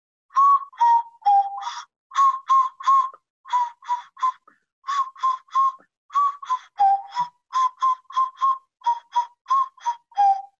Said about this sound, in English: You're blowing my mind, you know, because actually my mother got me a nose flute when I was a kid, but I always thought it could only play one note.